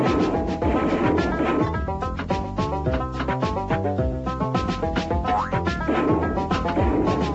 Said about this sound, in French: La bande sonore est adaptée à chacun des flippers, amusant ou réaliste, les bruitages sont réussis, de même que la musique.